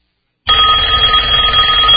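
A telephone rings loudly and continuously after a brief silence, its bright, steady trilling bell filling the rest of the moment with no voices present.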